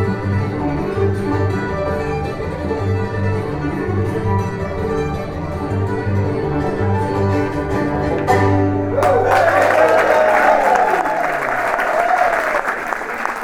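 Sustained instrumental music plays, then in the last few seconds a loud burst of audience applause breaks out: dense, steady clapping that carries on to the end as the music fades away.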